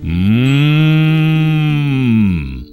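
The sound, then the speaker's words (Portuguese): A hungry calf moos in one long, steady bellow lasting over two seconds, loud, with a slight rise before it tapers off, waiting to nurse while its mother is milked. No one speaks. “Esse Betinho puxou o pai. Tem uma fome de leão. Tem uma fome de touro.”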